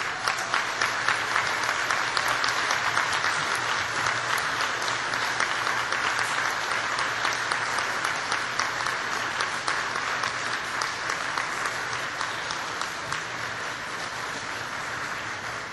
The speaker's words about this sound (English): Now, look around the room and give a big round of applause to all the people who have supported you.